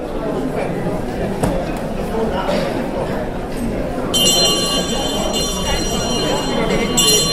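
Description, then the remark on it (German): A large hand bell rings out loudly and continuously over murmuring voices, pausing briefly before clanging again, rung by Cologne's Lord Mayor Jürgen Roters to open the city council session in the city hall. “Der Kölner Oberbürgermeister Jürgen Rotas von der SPD läutet mit einer großen Glocke zum Beginn der Ratssitzung im Rathaus.”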